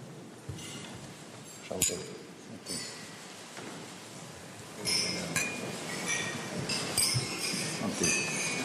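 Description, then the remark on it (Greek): Glasses clink together in a toast raised to the President of France and the French people, several bright, high chiming taps scattered over a steady murmur of a crowd, with a sharper clink standing out near the start. “Με τις σκέψεις αυτές, υψώνω κύριε Πρόεδρε το ποτήρι μου και εύχομαι σε εσάς και στο φίλο λαό της Γαλλίας ειρήνη, ασφάλεια και ευημερία.”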